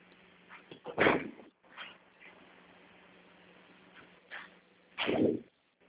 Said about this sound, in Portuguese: Deixa eu fechar a porta da minha sala.